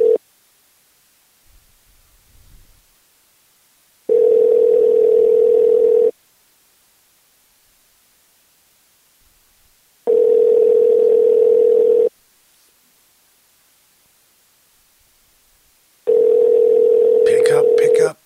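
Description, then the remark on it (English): Ringback tone of an outgoing phone call: three steady, moderately loud electronic rings, each about two seconds long and separated by roughly four seconds of near silence. “Pick up. Come on, pick up the phone.”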